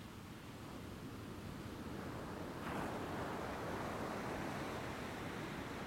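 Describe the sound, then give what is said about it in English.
Gentle ocean surf washes steadily, a soft continuous hiss of water, with one wave swelling and breaking a little louder partway through. No voices, just the calm, even roar of the sea. “As you listen to the gentle rhythm of the waves, begin to notice the rhythm of your breath.”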